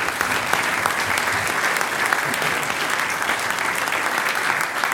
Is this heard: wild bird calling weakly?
no